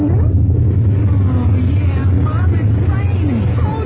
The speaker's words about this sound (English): It's about time we... Thunder! Thunder?